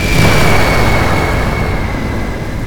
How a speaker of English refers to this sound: In the sky above, Warren Worthington, the Angel, finally arrives on the scene, just in time to see a huge explosion of fire from the Hellfire Club.